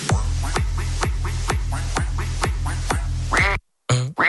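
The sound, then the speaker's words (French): A duck quacks loudly and steadily, about eight evenly spaced quacks in a row, then a drawn-out call, a brief silence, and one last quack. No voices are heard. “La team Coin Coin est ouverte et je te rajoute à l'intérieur.”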